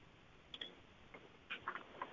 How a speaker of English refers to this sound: When you double tap on the full scan button, you'll hear a ticking sound.